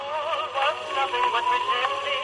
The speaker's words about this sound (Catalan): ens estàs posant aquesta meravella que no t'ho creuràs, però és un disc de pedra de l'any 1930 i sona així